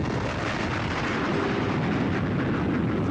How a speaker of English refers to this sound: The world seemed to go in slow motion. I spun end over end. Six guys were hurt altogether in the explosion.